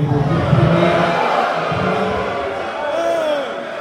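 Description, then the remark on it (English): A loud, raucous crowd at a Wednesday night public meeting shouts and jeers in objection to Supervisor John Moyers' motion to table a resolution, demanding an immediate vote; many overlapping voices form a steady roar of protest with individual yells rising and falling throughout. “Moyers' motion was met with a raucous objection by the assembled crowd, who made it known they wanted an immediate vote.”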